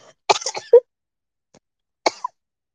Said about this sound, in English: The coughing is so worrying, regardless of the test. But it's gonna be with me for like a month or two, I think, the coughing.